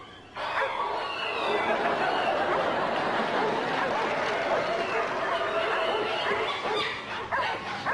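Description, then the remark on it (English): A dense, continuous clamor of many dogs barking, yipping and whimpering at once outside, loud, forming a chaotic wall of animal noise that runs without pause. “There must be hundreds of cats and dogs out there.”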